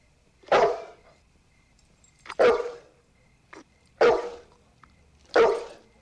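A dog named Hooch, tied up on a porch, barks four times, loud single woofs spaced more than a second apart, with a small yip between the second and third, and no voices.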